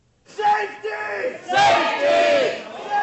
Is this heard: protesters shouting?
yes